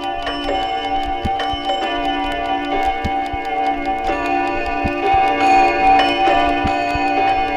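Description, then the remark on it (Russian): Several old clocks in the Moscow Kremlin, in tall cases in the palace chambers, tick steadily in overlapping rhythms, crisp clicks with a sustained metallic ringing humming underneath. No one speaks. “У маленьких часов крутятся усики, и пульс бьет 120 минут.”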